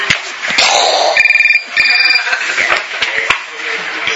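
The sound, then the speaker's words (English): A cell phone rings in two short trilling bursts with a brief pause between, fairly loud, over background noise with some voices and clatter around it. “She who has cell phone.”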